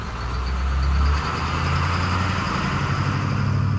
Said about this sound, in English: 2 hours later, this old yellow school bus with about 50 workers on board arrives at a chili field near Hatch. The workers jump out, grab big plastic buckets, and fan out across the field.